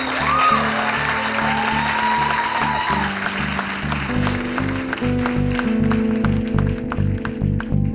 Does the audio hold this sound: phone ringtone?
no